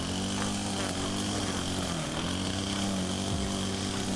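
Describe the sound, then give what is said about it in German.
A lawn mower drones steadily outdoors, its engine hum continuous and fairly loud with a slight dip in pitch near the end, and no voices over it. “Ja, so Rasenmäher habe ich ja gefressen.”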